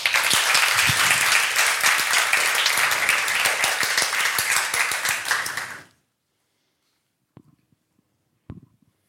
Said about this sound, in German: Und was das alles mit künstlicher Intelligenz zu tun hat, erklärt euch die Gruppe selbst. Ein Applaus bitte.